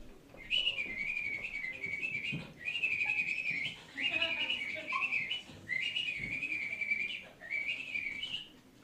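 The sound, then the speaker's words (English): A person imitates an angry mother bird, letting out five shrill, warbling whistled chirps, each about a second long and separated by short pauses. The calls are loud and agitated. “This is impression of a pissed off mother bird, okay?”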